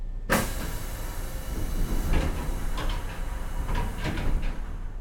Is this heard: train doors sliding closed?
yes